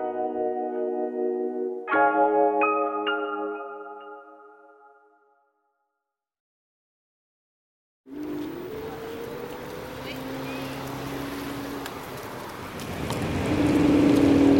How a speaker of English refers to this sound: I am on an electric scooter on the Mall, heading towards Buckingham Palace, dodging traffic